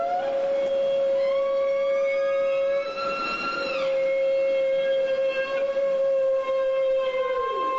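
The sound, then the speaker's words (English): Humpback whale feeding calls, recorded underwater with a hydrophone from groups bubble-net feeding on schools of herring: one long, loud, steady tone with rich overtones, sustained for several seconds with a brief wavering in the middle and a slight downward bend at the end. “And when you drop a hydrophone in, you get these incredibly clear, beautiful, flowing tones, and those are what we call the feeding calls.”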